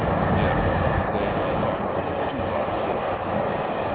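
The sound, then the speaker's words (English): A train rumbles steadily by a train station, a loud continuous roar of wheels and engine noise that holds for the whole stretch without pause, with no voices over it. “Damn, nigga, get out the train station.”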